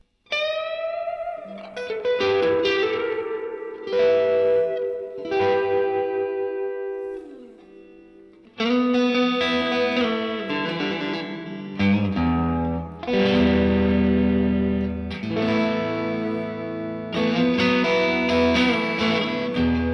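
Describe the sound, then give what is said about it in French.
An electric guitar played through an effects pedal with the pedal's internal drive switched off, giving a clean, spacey tone, ringing chords and picked notes washed in chorus and reverb, loud with no talking. “cette pédale possède une sorte de drive interne qu'on peut activer ou désactiver”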